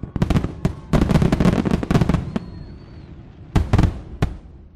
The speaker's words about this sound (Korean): 자, 그리고 독립기념일에 빼놓을 수 없는 행사는 역시 불꽃놀이입니다.